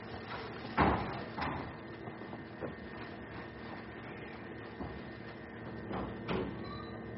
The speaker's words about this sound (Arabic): صك الباب يا حبيبتي، صك الباب